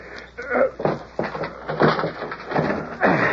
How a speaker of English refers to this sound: It's locked. Figured it would be. Just give it a shove. That old lock won't hold nothing. Door ain't barred. Yeah. Try again.